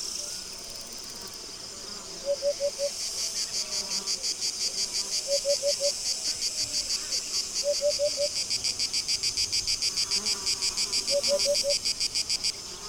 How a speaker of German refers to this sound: Es ist August an einem Nachmittag. Der Tag nähert sich seinem Ende, aber es herrscht immer noch erdrückende Hitze. Dieses Gefühl der Trockenheit wird noch durch die übliche Sommersymphonie des Grillenzirpens unterstrichen.